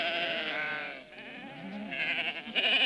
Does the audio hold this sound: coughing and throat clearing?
no